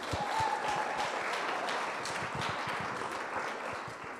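Steady applause from an audience fills the whole stretch, a dense patter of many hands clapping at an even level, with a faint whistle-like tone early on.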